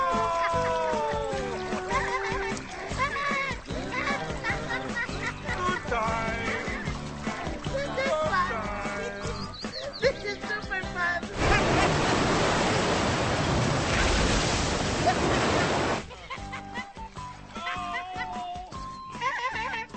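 Excited voices chatter, then a loud rush of splashing water erupts for several seconds as someone plunges into the Strawberry River, before the talking resumes.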